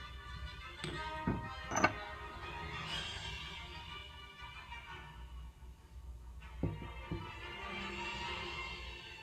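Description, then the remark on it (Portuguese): A glass of water being picked up in Piracicaba: a few light clinks and taps, clustered early, then one more soft knock later over a quiet, steady background with no talking. “Pegando o nosso copo d'água,”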